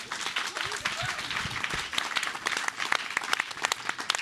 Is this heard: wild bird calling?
no